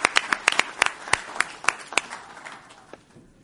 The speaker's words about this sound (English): Mayor? Come up. Big round of applause for Mayor Gomez. Thank you.